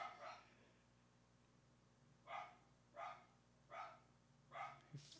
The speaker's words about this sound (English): Okay, anyway, before that dog started barking, I gotta start stretching before I throw it.